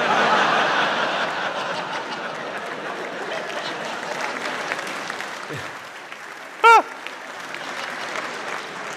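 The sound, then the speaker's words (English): A crowd applauds steadily for several seconds, dense clapping mixed with scattered chuckles, fading slightly before a brief sharp whistle-like squeal near the end. “It's amazing that gets a round of applause here.”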